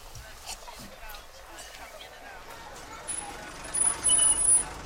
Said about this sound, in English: hears the sound of a car pulling up outside and stands up. He cautiously moves towards the front window. It's a black cab,